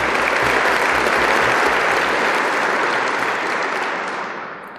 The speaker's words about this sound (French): Je demande à ces lauréats de bien vouloir se lever, afin que nous puissions les applaudir.